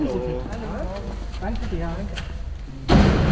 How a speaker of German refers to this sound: stemmt die Tür zum Außenbereich auf.